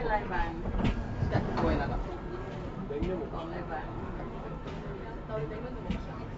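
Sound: train passing nearby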